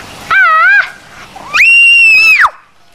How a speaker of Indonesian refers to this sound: Kok teriak sih?